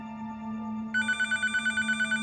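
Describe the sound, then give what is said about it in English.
Greg LeMond's telephone in his kitchen starts ringing partway through with a bright, rapidly pulsing electronic trill, about eight or nine quick bursts, over a low steady hum; the caller is Lance Armstrong. “LeMond is reading through the paperwork when his phone rings.”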